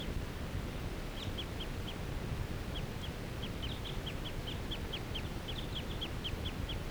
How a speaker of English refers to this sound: This is a wild bird. It's still in the lodge full time. Not interacting with that other flock. This is that same bird that I was recording a minute ago. And that was lone and in the fir.